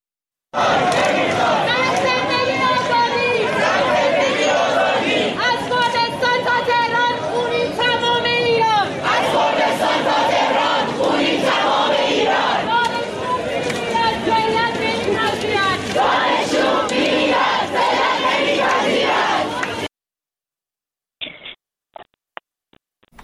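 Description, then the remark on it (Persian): A large crowd of student protesters at Shahid Beheshti University, protesting the killing of Mahsa Amini, chants slogans such as "Death to the dictator" loudly in unison for about twenty seconds, their voices rising and falling in rhythmic phrases, then cuts off abruptly, leaving a few faint clicks. “دانشگاه شهید بهشتی دانشجویان به قتل مهسا اعتراض کردند و شعار دادن مرگ بر دیکتاتور، توپ تانک فش فشه، آخوند باید کن بشه و شعارهای دیگر که اگر که امکانش هست صدای اونها رو بشنویم.”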